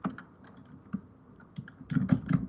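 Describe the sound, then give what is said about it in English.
Quick, uneven computer keyboard clatter, rapid key taps, growing louder and denser toward the end with a few heavier keystrokes. No voices. “The thunder of typing.”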